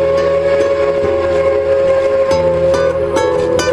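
A train rumbles along with a loud, sustained steam whistle sounding over the rhythmic clatter of the wheels, continuous throughout, with no voices.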